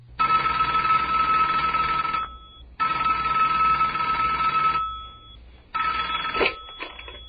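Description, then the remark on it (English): A telephone rings loudly, three long bell-like rings of about two seconds each separated by short pauses, with no one speaking, at the start of a wiretapped phone call of President Trump. “the investigative team here works night and day to find these things for us, and so we actually have been given the audio of an actual wiretap phone call of President Trump that President Obama wiretapped.”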